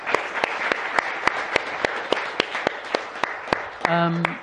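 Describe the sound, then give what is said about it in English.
An audience applauds the panelists at the end of a panel discussion with a steady, dense wash of clapping, one sharp clap cutting through in a regular rhythm, and a voice begins speaking over it just before the end. “Please, a round of applause for our panelists.”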